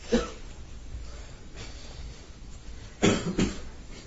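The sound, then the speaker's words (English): A few coughs from audience members, devotees at a talk about Krishna: one short cough at the start, then after a quiet pause two more in quick succession, over a low background hush. “You all cough.”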